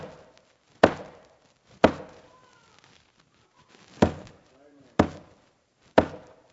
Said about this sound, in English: See him there as he carries that cross up Calvary's hillside. Hear that hammer as it strikes the nail.